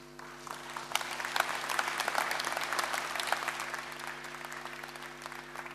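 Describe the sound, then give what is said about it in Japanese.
An audience claps steadily for several seconds, a dense, even patter of many hands at moderate loudness with a faint low hum beneath, no voices, approving a resolution at the 69th National Welfare Convention for the Blind in Aomori, Japan, in 2016. “なければ拍手をお願いします。”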